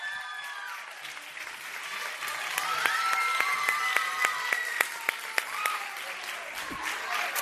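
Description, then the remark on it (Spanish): A crowd applauds steadily for several seconds to welcome someone, a dense wash of clapping punctuated by sharper individual claps, with raised voices and cheering threaded through the noise. “Así que yo creo que va a llegar el momento de recibir con un fortísimo aplauso.”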